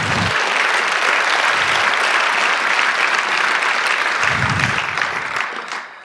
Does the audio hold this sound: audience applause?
yes